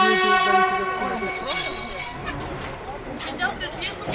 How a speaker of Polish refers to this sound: Zbliża się. Zbliża się, jedzie. Już więcej nie pojedziemy pociągiem.